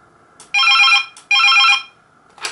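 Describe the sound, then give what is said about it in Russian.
A telephone bell rings in two loud, evenly spaced bursts of bright, warbling trills, each lasting about half a second, with no talking. “А не то, что сейчас такой же звук сейчас доносится, что и на этом телефоне.”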